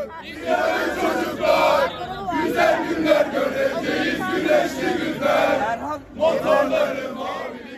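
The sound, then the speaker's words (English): A crowd of several hundred mostly young people at a political rally in front of the CHP headquarters in Ankara, Turkey, chants hymns and the national anthem loudly in unison while waving Turkish flags. Many voices blend into a steady, rhythmic roar that rises and falls, with two brief dips before the chanting surges again. “Several hundred, mostly young people, were still there, waving Turkish flags, chanting hymns and the national anthem.”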